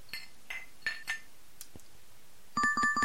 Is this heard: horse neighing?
no